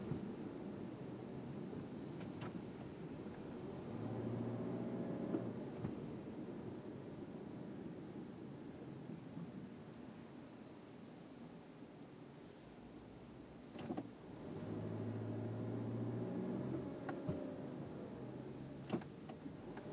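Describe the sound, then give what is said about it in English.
Steady low rumble of a car cabin on the road, with engine hum swelling twice as it revs and a few faint clicks and thumps; no one speaks. “And we're driving a car.”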